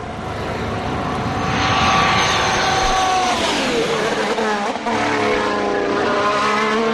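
A Honda-powered Red Bull Formula 1 car engine screams at high revs, loud, its pitch climbing and then dropping sharply as it shifts and decelerates, before revving back up.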